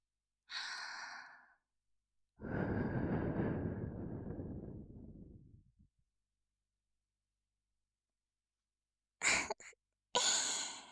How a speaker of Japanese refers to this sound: ゾクゾクしちゃった。息を吹きかけられただけでピクピクしてる。